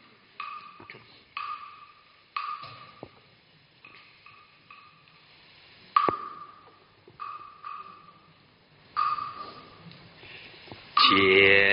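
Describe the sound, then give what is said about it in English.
A chanting bell struck about eight times at uneven intervals for chanting the Heart Sutra at a retreat, each strike a bright metallic hit with a steady mid-pitched ring that fades before the next. No one speaks. “Okay, you need the bell or not? Oh, good. You have the bell.”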